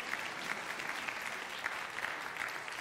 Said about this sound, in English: It's okay. You want to clap? That's fine.